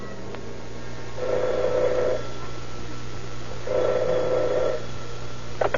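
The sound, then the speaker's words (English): A telephone at detective headquarters rings twice, each ring a steady buzzing tone lasting about a second, separated by a pause, over a faint constant hum with no one speaking; it is a strange call to the operator late at night. “The investigation is checkmated until late that night when the operator at detective headquarters receives a strange phone call.”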